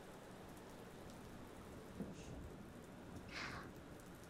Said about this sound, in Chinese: 啊，在山里走路的时候下雨了，就来这里避雨了吗？